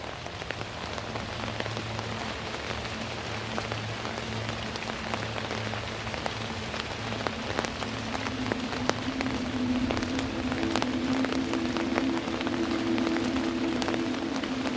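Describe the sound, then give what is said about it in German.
Steady rain falls continuously, with dense pattering and scattered sharper drops hitting a surface, accompanied by a low, constant hum underneath. No voices are present. “Ihr Licht bricht sich in den fallenden Regentropfen und verwandelt die Luft in ein feines Kaleidoskop aus Farben.”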